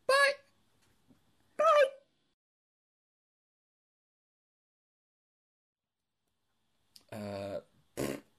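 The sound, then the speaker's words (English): Voices making mouth-made fart noises in short bursts: two brief blurts early on, then a long silence, followed by a longer buzzing raspberry and one more quick blurt, fairly loud. “Let's just do fart noises.”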